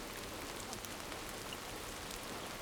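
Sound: rain falling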